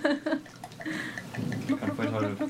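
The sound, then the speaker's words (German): A voice imitates liquid glugging as drinks are poured from a bottle, a short run of bubbly, gurgling mouth sounds lasting a couple of seconds, fairly loud. “Ich kann voll tolle Flaschengeräusche imitieren. Darf ich euch auch gleich einschenken?”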